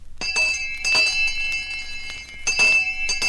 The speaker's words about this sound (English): Hear that bell ringing? That's not the fire alarm or the alarm clock. That's the old school bell, signaling the return to school of thousands of kids right here in this area.